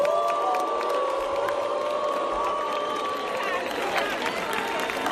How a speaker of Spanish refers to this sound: Bueno, esos eran los abucheos que recibía …. Recordad todos quién ha sido y quién es …. Bueno, pues así la recibieron en plató.